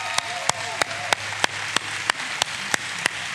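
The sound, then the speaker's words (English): An audience claps to honor a missionary family, in steady unison, about ten sharp, evenly spaced claps at a brisk pace over a continuous wash of crowd noise. “It's more than a clap.”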